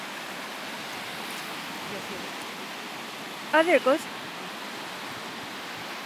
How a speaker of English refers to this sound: It's kind of hard because it's windy.